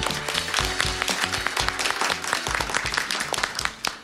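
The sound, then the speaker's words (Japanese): Steady applause from an audience at a corporate IR and individual investor event in Osaka, welcoming Toyo Tec president Hiroyuki Ikeda; dense overlapping claps sustained throughout at a lively, even level with no talking over it. “大きな拍手でお迎えください。”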